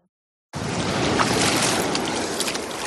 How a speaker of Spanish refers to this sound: Estoy bañándome en la playa de Palomares. Me llega el agua hasta el pecho. No puedo meterme más porque si no mojo el micro.